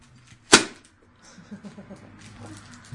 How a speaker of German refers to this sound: Boah, das knallt ja ganz schön. Dynamit.